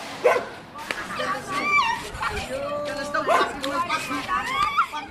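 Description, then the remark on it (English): Several stray dogs bark and yelp in quick, uneven bursts outdoors on a dusty, dead-end street, some whining between barks, with indistinct voices murmuring in the background. “He lives in this dusty, dead-end street, the territory of mischievous teenagers and equally strayed dogs.”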